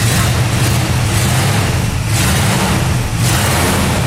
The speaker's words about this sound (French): Le charme du son V8, exceptionnel.